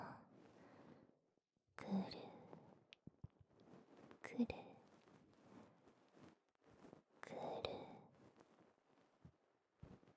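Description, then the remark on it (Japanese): Intimate scratching and rustling of an ear-cleaning tool inside an ear, coming in irregular soft bursts, with faint breathy whispering mixed in. “はーい、お耳に入れますよ。”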